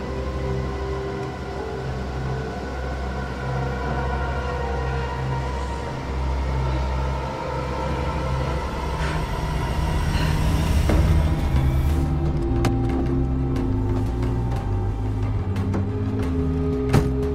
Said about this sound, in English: The truck comes to a stop.